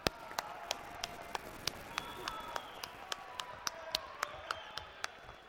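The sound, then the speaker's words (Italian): An audience claps in a steady, rhythmic beat, sharp claps about three per second, over a murmuring crowd and a faint tonal hum, applauding young performers as they step forward on stage at an annual event in its 7th edition. “un avanzamento sul palco per raccogliere l'applauso dei nostri ragazzi.”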